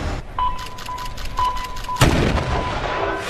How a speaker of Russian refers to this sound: Выстрел из пушки, и трактористы срываются в бой.